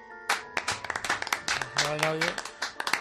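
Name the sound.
applause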